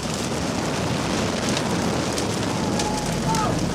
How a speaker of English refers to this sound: A house is on fire.